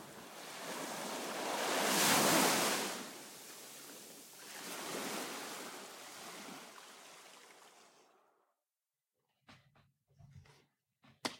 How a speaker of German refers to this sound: Und als der Druck endlich aus seinem Kopf entwich, war er umringt von nichts außer dem Rauschen des Meeres.